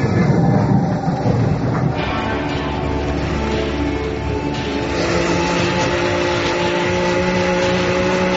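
A steady, loud rumble of a subway train running through a tunnel, with a continuous roar and faint whining tones that hold for the whole stretch and no voices.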